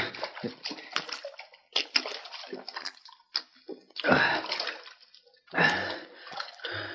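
water splashing

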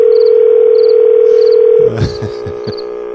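telephone line tone

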